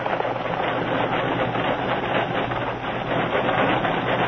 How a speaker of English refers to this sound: He came alongside the engine. He could see the face of Jim, ruddy in the glow of the roaring fire. Stop the train!